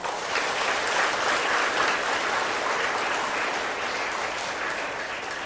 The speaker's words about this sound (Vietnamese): Cảm ơn các bạn đã là lắng nghe rất là hứng thú, và đã cảm ơn sư bằng những tràng pháo tay làm cho sư quên đi mọi sự là mệt mỏi, phải không?